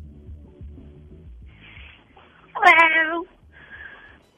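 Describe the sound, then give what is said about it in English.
A single loud, drawn-out meow from a new pet cat rises clearly above a low rumbling hum, lasting under a second, with faint background noise before and after. “Say, I got a new kitty cat, and I was wondering if I should name it Hitler or Decaw Watson.”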